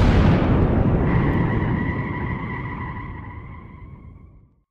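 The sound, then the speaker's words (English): Cars brake hard in the rain as the ground shakes, a loud rough roar of tires on pavement joined by a sustained high-pitched skidding squeal that slowly fades out over several seconds, with no voices. “A second later, the ground beneath us shook so hard that all of us slammed on the brakes.”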